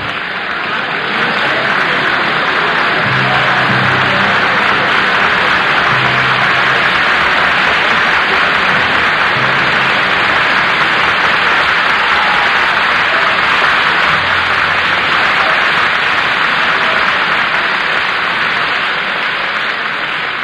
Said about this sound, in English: Yes, there is Mr. Stokowski, and the men of the orchestra have risen with him to share the applause of our studio audience for this world premiere performance of the Fourth Symphony of George Antheil.